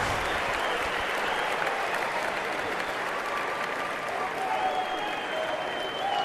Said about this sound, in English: Some guy standing and cheering there. Sit down, fanboy.